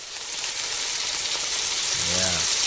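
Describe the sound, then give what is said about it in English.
A steady sizzling frying pan sound effect on WGN Radio, a dense crackling hiss of food frying in a hot pan that holds for a few seconds, with a brief faint tonal swoop near the end. “Before he goes into that pressure cooker, he comes to WGN Radio to jump into the frying pan.”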